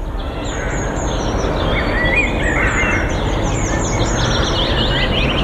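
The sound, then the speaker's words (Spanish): Ambience of a park in midwinter filled with steady birdsong: many small birds chirping and trilling overlapping calls, layered over a continuous low rumble of wind or traffic, with no one talking. “Lo que están escuchando de fondo ahora mismo... es el ambiente de un parque en pleno invierno. Pájaros cantando, aire puro, tranquilidad y calma.”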